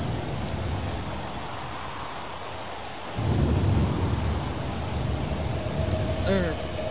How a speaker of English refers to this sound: Sound like rain. Sound like wind.